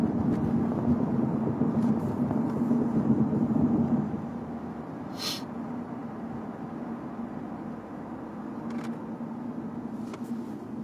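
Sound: car interior road noise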